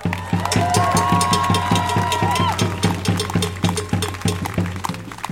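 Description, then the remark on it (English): A loud crowd at a rally for migration justice cheers and applauds two of the organizers for several seconds, with steady rhythmic clapping and a brief high whistle rising above the dense, continuous noise. “A big applause”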